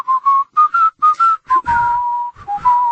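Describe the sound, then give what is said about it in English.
A person whistles the tune of the old military song When Johnny Comes Marching Home, short clipped notes in a bouncing rhythm followed by a longer held note, loud and clear with no one talking. “Can I whistle it instead?”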